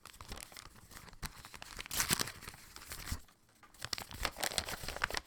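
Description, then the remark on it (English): Paper crinkles and tears in a series of sharp rips lasting several seconds as an envelope of certified mail is torn open, with a brief pause midway before more rustling and tearing. “it's not from anyone I know, Chew Associates, but it's certified mail”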